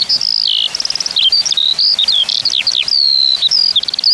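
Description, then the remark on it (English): A male skylark sings from a great height while hovering in its song flight, pouring out a continuous, rapid song of high-pitched warbles, trills and chirps, fairly loud and unbroken for the whole stretch, with no voices. “They hover, singing from a great height, before parachuting back down to earth.”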